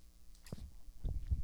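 household object, pen clicking repeatedly

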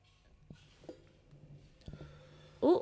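human body sound, coughing and throat clearing

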